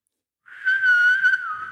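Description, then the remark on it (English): Someone whistles a snippet of the Lassie television theme tune: one clear, fairly high whistled note held for over a second, wavering slightly in pitch, with no talking. “That's think the Lassie theme.”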